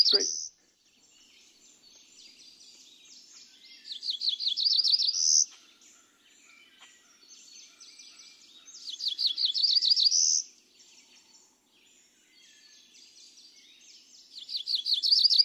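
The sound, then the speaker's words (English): A cerulean warbler sings a come-hither song in a dialect different from that of the Driftless area: three high, buzzy song phrases, each a quick run of notes that rises to a sharp trill at the end, separated by quiet gaps with faint chips. “It would be a shame if we didn't get to hear the voice of this cerulean warbler.”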